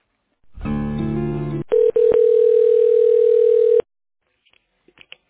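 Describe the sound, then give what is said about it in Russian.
A telephone ringback tone as a call is transferred to a technical director whose line switches to a mobile phone: a buzzy burst, a couple of line clicks, then a steady single-pitched tone held for about two seconds before the line goes quiet. “Я могу попробовать вас на технического директора перевести, потому что у него переключается на мобильный телефон, если он не будет.”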